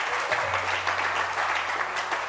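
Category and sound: crowd, audience clapping hands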